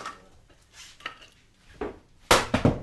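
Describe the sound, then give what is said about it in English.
Wood being chopped for a fire in a kitchen fireplace: a series of sharp, woody thwacks at uneven intervals, faint at first and then several loud strikes near the end, with no voices. “Chopping wood for the fire”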